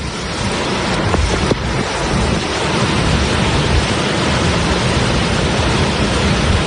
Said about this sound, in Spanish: Y esto que escuchas es el río Clariano rugiendo con esa enorme cantidad de agua que está transportando.